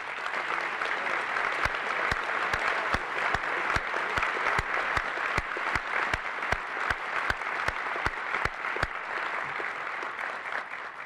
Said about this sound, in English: we can then give him a round of applause, please.